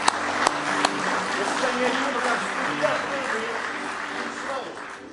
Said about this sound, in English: Why don't you just go ahead and give Him a good hand clap of praise tonight if you love Him with all your heart.